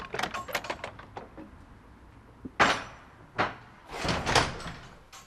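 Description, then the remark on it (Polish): A heavy wooden church door creaks and rattles, then slams shut with a loud, echoing thud, followed by a few more knocks and clunks as it settles. No one speaks. “Drzwi trzasnęły, do środka weszliśmy.”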